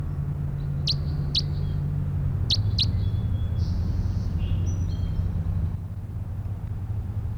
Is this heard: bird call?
yes